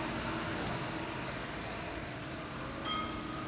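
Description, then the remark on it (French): A tram rolls by on a city street with a steady rumble of wheels and traffic, and a brief high metallic squeal near the end. “Parce que les voitures s'arrêtent, mais les tramways, jamais.”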